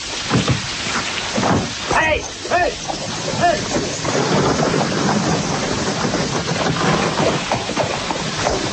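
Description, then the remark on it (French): Heavy, pounding rain pours down in a dense, hissing wash that fills the whole clip as the King of France passes a school, with a few indistinct voices briefly rising over it near the start. “Hélas, Majesté, aujourd'hui, Phébus est tourné en pluie.”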